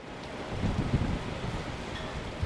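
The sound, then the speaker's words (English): Strong wind from Tropical Storm Isaac roars with heavy rain whipping against a hotel near Tampa, Florida, in a steady, continuous wash of noise, rumbling low and buffeting throughout, with no voices. “As Isaac whipped sheets of rain against the Illinois Republicans' hotel, many in the delegation hunkered down, trying to figure out what to do with their newfound free time.”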